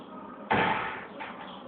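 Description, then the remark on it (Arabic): A single door thuds shut midway through a lesson, a sudden fairly loud impact that rings out briefly before fading into a quiet hum. “إذا سدون الباب ولو زحمة.”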